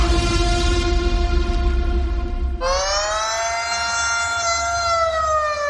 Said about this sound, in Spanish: Ojalá esto fueran los bomberos yendo a rescatar a alguien encerrado en un ascensor. Por desgracia, son las sirenas que en Ucrania avisan de los bombardeos que han causado el desplazamiento de millones de personas, la mayoría mujeres y niños.